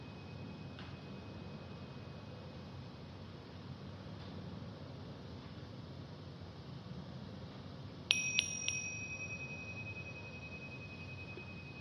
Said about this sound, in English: Noticing how sounds arise and vanish, leaving no trace. Including the appearing and disappearing of the gong.